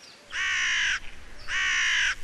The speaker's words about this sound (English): Listen, that's a big black crow. You'll hear lots of them around here.